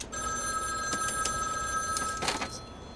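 A payphone in a phone booth rings with a continuous, shrill metallic bell, steady, with a few sharper clatters near the end and no voices.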